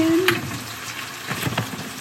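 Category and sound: food or drink, chicken frying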